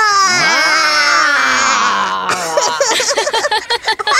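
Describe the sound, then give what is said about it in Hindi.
Two children imitate a lion's roar with their voices, one long, loud, sustained growling cry that sags in pitch, then a choppier, wavering burst of roaring that pulses in quick surges. “चलो अब तुम दोनों भी बहादुर शेर की तरह दहाड़ो।”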